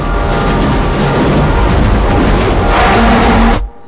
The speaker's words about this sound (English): As the train begins to shake more violently, David looks up ahead.